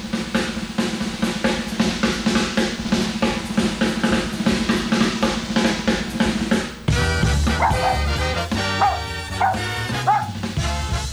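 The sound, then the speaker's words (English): A dog barks over and over in a quick, steady rhythm, loud, mixed with busy music that shifts partway through: the 'Greenwich the Mean Time Dog' time check on radio station WAIF. No one speaks. “There's Greenwich the Mean Time Dog. Take a bite out of time.”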